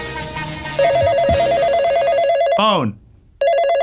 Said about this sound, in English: Hello? The Yak Shack line is ringing. The Yak Shack line is ringing.